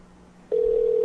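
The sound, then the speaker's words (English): A steady electronic telephone tone switches on abruptly about halfway through as someone places a phone call, and holds, loud and unbroken, to the end, preceded by a faint low hum with no talking. “Let me try to give her a buzz.”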